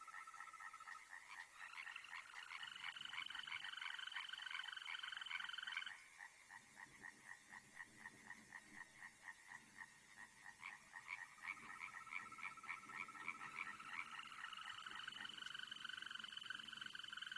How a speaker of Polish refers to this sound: Szczególnie nastrojowo brzmią majowe koncerty ropuchy zielonej w ciepłe wieczory i noce.